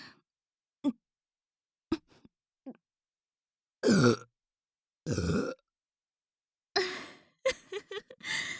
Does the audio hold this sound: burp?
yes